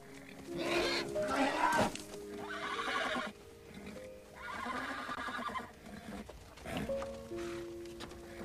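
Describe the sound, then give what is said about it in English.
A horse named Flicker, in a corral, whinnies several times in loud, shaky bursts while hooves clop unevenly on the ground between the calls. No one speaks. “Katie looks at Flicker through the corral fence.”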